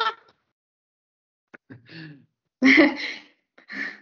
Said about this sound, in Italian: Ha respirato sereno.